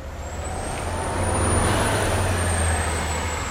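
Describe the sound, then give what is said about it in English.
Buses roll in and out of Dudley Station in Dudley Square, Boston, their deep engines droning steadily with a broad hiss of air brakes and a thin high whine overhead, growing slightly louder midway, with no one speaking. “Buses now roll in and out of Dudley Station.”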